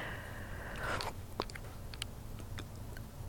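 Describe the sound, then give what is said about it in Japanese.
Scattered raindrops of a light rain tap against a wall, a few sharp, irregular ticks separated by pauses, over a steady low rumble of background noise from cars and airplanes. No one speaks. “土の中に消えていく音ではなく、合間にポツンと塀に当たる雨音が聞こえます。”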